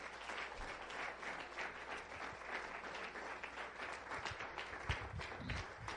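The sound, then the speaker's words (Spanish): An audience at an evening church service applauds for Jesus, the King of Kings, a dense wash of many hands clapping at an even level for several seconds with no one speaking over it. “Dame un aplauso al Rey de Reyes y Señor de Señor.”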